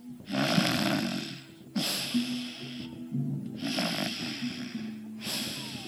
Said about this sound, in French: Tu as dormi comme un loir. Et tu as ronflé aussi.